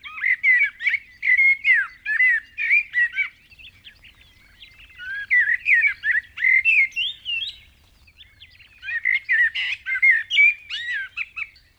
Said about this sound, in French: Vous avez trouvé la réponse ? Bravo ! Il s'agit du merle.